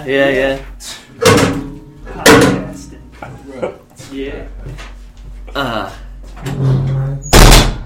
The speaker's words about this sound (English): It's a big door.